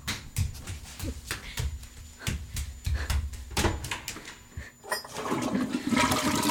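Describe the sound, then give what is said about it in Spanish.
A series of sharp clicks and knocks, then a toilet flushes in a bathroom with a loud, rushing gush of water that fills the last moments. “Suelta el agua del inodoro y no suena.”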